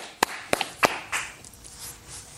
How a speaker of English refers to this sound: Clapping for himself. Beautiful.